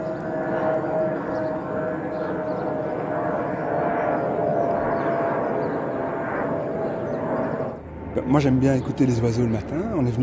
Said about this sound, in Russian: Раньше его обитатели могли наслаждаться тишиной или пением птиц, но теперь все изменилось. С утра до ночи здесь слышен лишь гул самолетов.